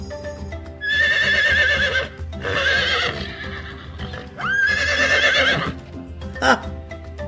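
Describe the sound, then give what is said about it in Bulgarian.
A horse whinnies loudly in several long, shaky bursts, with a brief sharp sound near the end and faint clip-clop of hooves underneath. “Искам да се превърнеш в здрав и красив кон, който да яздя.”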